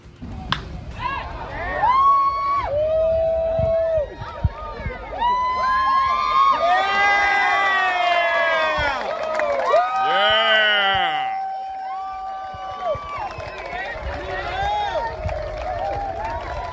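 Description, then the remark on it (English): A large crowd roars and cheers loudly and continuously, with individual whoops and shouted voices rising and falling above the dense wall of sound throughout, after Tim Tebow hits an opposite field home run off a left-handed pitcher in his first professional at-bat, in the New York Mets Instructional League. “Cheering you're hearing is everybody at the Fox Sports Network, everybody at ESPN collectively cheering and incredibly happy about the outcome of that at bat.”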